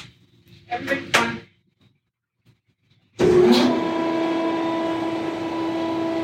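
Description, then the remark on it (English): A couple of metallic clanks, a short pause, then heavy exhibit doors grind open as two hippos are released onto their exhibit, with a loud, sustained droning screech that keeps rumbling steadily until the end. No one speaks. “Okay, so we often talk about, you know, the kind of stuff used for shifting and everything, and I thought I would just let this play out so you can actually hear what it sounds like when two hippos get released onto exhibit.”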